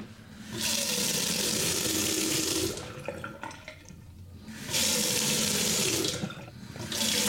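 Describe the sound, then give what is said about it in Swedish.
A kitchen tap is turned on and off repeatedly, water gushing steadily into a sink for a couple of seconds at a time with short quieter pauses between, fairly loud. “Det första som hände var att jag skulle dricka vatten, men sen jag skulle stänga av vattenkranen så kunde jag inte göra det, för det kändes så jävla fel, va?”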